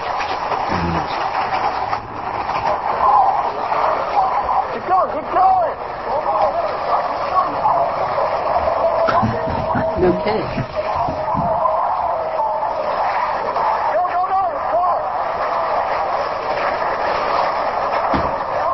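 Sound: pickup truck driving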